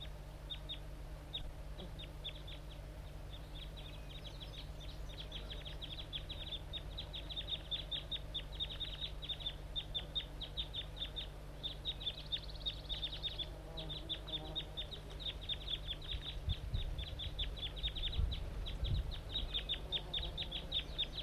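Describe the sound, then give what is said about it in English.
A wild bird calls insistently, rapid high-pitched chirps repeating in a steady stream for the whole stretch, sharp and prominent over a low background rumble, with no one speaking. “The wild bird's probably the loud one. He's calling too much.”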